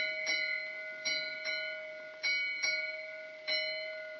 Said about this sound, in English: At 11:40 p.m., Chief Officer Murdoch on the bridge of the Titanic hears an ominous signal from the lookout. A three-bell warning that something is ahead.